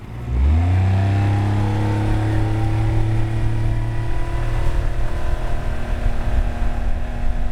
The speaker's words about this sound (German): Und so vertschüssen wir uns von den Buhnen. Mit Vollgas natürlich, denn so ein Motorboot ist nicht nur Mittel zum Zweck, sondern macht auch Spaß zum Fahren.